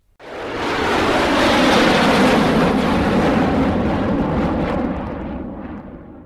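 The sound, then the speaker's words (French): A loud, steady jet roar of an airplane passing overhead in the sky over Barcelona, rising quickly, holding broad and rumbling for several seconds, then easing slightly as it moves away. No voices. “Dans le ciel de Barcelone passent des avions.”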